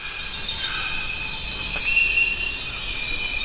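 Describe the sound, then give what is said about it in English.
Amazon rainforest ambience on the Zabalo River in Ecuador, alive with a dense, steady chorus of high-pitched insects, layered shrill buzzing and trilling tones holding constant throughout, with a soft low rumble underneath and no voices. “Welcome to the Zabalo River in Ecuador's Amazon rainforest. It's one of the world's remaining truly quiet places.”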